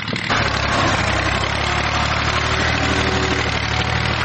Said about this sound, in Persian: در ولسوالی واشهر ولایت هلمند، افراد مسلح طالبان در نزدیکی یک زمین کشت کوکنار ساده و تماشا می کنند که چگونه تراکتور کشت کوکنار را تخریب می کند.